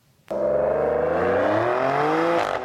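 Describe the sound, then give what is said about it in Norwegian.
A Maserati Grecale Trofeo, an Italian compact performance SUV, starts abruptly and its engine holds a loud, steady rev, its harmonic tones climbing slowly in pitch over a couple of seconds before easing slightly at the end, with no voices. “Det er en Maserati Grecale Trofeo.”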